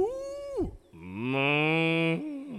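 A dairy cow moos twice: a short, falling call, then a longer, steady, loud low moo that drags on for over a second before tapering off.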